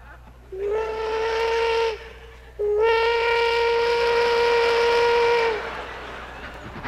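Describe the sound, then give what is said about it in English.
A steam train whistle sounds two loud, sustained blasts: a shorter one, then a longer held one. The tone is bright and reedy over a steady low rumble. Heard coming out of the fog at about 2 a.m. while approaching a small town just north of Houston. “As I approached their city limits, coming out of the fog at about 2 a.m, this is what the residents heard coming toward them.”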